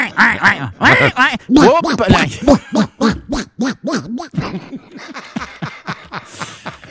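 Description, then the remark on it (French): A person imitates a duck, producing a loud, rapid string of nasal quacks in short bursts that continue for several seconds and grow a little softer toward the end. “T'entends-tu? T'as-tu le canard qui s'en vient?”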